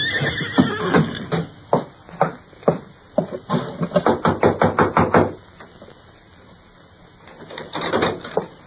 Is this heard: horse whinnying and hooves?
yes